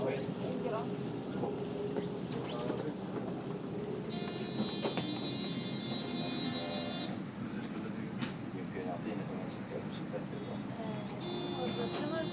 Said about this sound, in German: Das war eine Live-Aufnahme aus der Jerusalemer Straßenbahn in Israel.